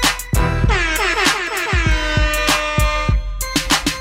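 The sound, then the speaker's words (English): Loud, brassy air horn blasts ring out in a sustained, wavering burst layered over a thumping hip-hop beat with punchy kick and snare hits throughout. No one speaks. “You got the air horns.”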